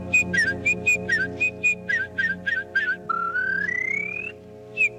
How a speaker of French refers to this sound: Un rossignol à cette heure-ci? Ça m'étonnerait, monsieur. Enfin, je n'arrive pas, le rossignol, c'est bien... Non, c'est la fauvette, monsieur. Ah oui, oui, oui, je m'embrouille.